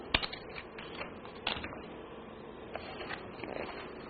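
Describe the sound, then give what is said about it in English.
A student snips through paper with scissors in a few sharp, crisp cuts spaced irregularly, with soft rustling in between. Fairly quiet, with no voices. “The student cuts paper with scissors.”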